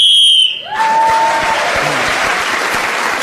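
A shrill, steady whistle blast sounds for about half a second as Clement Freud is speaking in a panel game round, then an audience breaks into loud, sustained applause that continues to the end.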